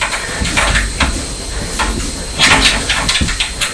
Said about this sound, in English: It's not a very nice day today, is it? No, it's rain. Yes, it's just started to rain. Yes. So it looks quite dark outside.